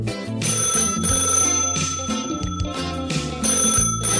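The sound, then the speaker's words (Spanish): A telephone ringing sound effect on Ajusco Radio, with bright, repeated bell-like bursts, loud, layered over a steady musical backing that continues throughout; no one speaks. “llámame ahora, llámame ya, llámame por teléfono.”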